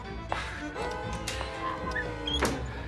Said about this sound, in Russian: Целясь в Сергея, зонтик неожиданно... Сергей от неожиданности падает, опрокинув стул.